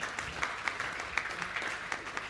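A council applauds together to welcome a new honorary member of their union, a steady patter of many hands clapping at moderate loudness, with a few sharper claps standing out. No one speaks over it.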